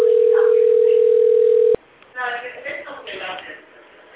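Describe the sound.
A telephone dial tone, heard while calling the Toolfressi sales department, holds one loud, steady mid-pitched note for under two seconds, then cuts off abruptly, and a thin, phone-filtered voice begins speaking.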